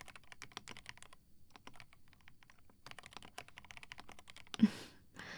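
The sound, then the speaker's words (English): Rapid typing on a computer keyboard with dense clicking keystrokes in uneven bursts and short pauses, ending with a louder clack and a brief rustle. No one speaks. “Like, listening to me typing on my keyboard, right?”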